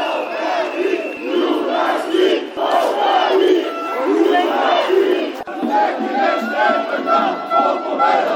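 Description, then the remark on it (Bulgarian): A crowd of about 200 young men waving Bulgarian flags and blocking the Orlov Most area chants loudly in unison, voices rising and falling in rhythmic, shouted phrases that carry on steadily without a break, with no single speaker standing out. “Те развяваха български знамена и скандираха.”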